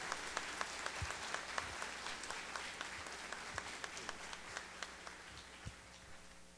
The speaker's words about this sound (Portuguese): Uma salva de palmas para a palavra de Deus.